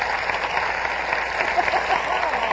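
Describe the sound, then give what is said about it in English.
A steady wash of audience applause for Dorothy L'Amour, the singing star of the show: many hands clapping together in a dense, even crackle that holds at a moderate level for the whole stretch, with no voices over it. “Applause.”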